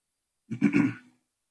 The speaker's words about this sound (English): I had a sandwich for lunch today. I think some of those little particles are causing me to cough more than normal. Don't worry, I don't have COVID.